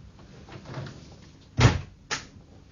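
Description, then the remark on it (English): A heavy door of two solid slabs of wood, in the after bulkhead, swings shut with a solid, booming thud, followed half a second later by a sharper, lighter knock, like the latch catching, against a quiet background. “That door's two solid slabs of wood, sir.”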